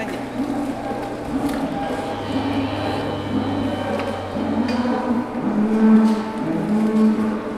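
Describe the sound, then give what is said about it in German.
Several cows moo in long, low, drawn-out calls that overlap one another, filling a busy free-stall barn on a livestock farm near a war front with a steady bovine chorus. “Die Kühe im Laufstall hätten sich bereits an die Luftangriffe gewöhnt.”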